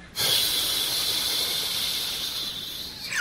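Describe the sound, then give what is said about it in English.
A steady hiss like steam escaping, held for about three seconds with no break, then cutting off sharply. A voice is making the sound as an imitation of a background noise. “It's like releasing steam.”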